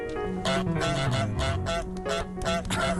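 A goose in a video game honks about six times in quick succession to scare villagers. The honks are loud, nasal, brassy blasts spaced roughly half a second apart over a steady background of game music.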